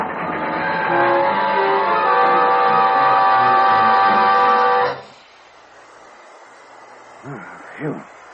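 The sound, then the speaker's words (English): A train brakes hard and goes off the track, its caboose slipping: a loud, sustained metallic screech with ringing tones and grinding rumble for about five seconds, then it cuts off abruptly into quiet, with two brief vocal sounds at the end. “Hey, look, the train's off the track.”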